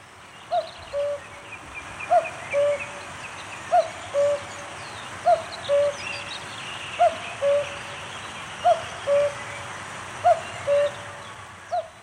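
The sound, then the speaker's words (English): A common cuckoo at High Ash Farm calls its two-note cuck-oo about seven times in a steady rhythm, clear, over a soft outdoor hiss of wind and countryside. “It's perhaps our most famous summer bird of all, and this one I recorded at High Ash Farm. It is, of course, the cuckoo.”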